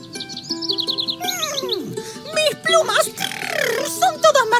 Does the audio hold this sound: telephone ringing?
no